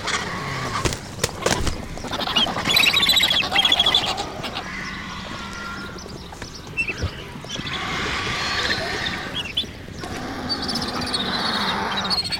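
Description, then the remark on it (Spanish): Vultures squabble over a carcass with harsh, overlapping screeches and hisses, loud and continuous, the din rising as two black vultures arrive, one descending and beating its huge wings to force into the group, with bursts of wing flapping and scuffling throughout. “Este griterío ensordecedor aumenta con la llegada de dos buitres negros.”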